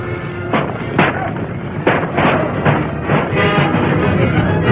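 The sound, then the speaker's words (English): Gunshots from outlaws in a town during a cattle stampede, fired whenever a townsman shows himself, crack out one after another at an irregular pace, sharp loud bursts over a constant, noisy din of commotion, with indistinct voices mixed in. “Guns roared whenever a townsman showed himself.”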